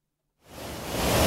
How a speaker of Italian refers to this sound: Il rumore delle cascate al Parco Nazionale dell'Una sovrasta tutto. Siamo nella parte ovest della Bosnia-Erzegovina. Venire qui significa essere circondati dall'acqua.